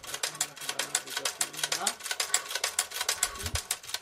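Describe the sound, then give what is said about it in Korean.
A 150-year-old hand-cranked sewing machine, obtained in the United States, runs steadily, its needle clattering in a fast, even rhythm of sharp clicks that continues throughout, with a faint low voice murmuring underneath. “이란에서 가져온 100년이 된 가위와 미국에서 어렵게 구한 150년이나 된 수동 재봉틀인데요.”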